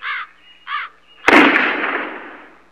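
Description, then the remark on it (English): Two loud, harsh bird squawks in quick succession, followed by a sudden sharp bang whose noisy crash fades out over the next second or so. “Goddamn birds.”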